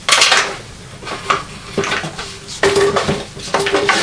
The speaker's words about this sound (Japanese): うん、そう、鍋でしょ。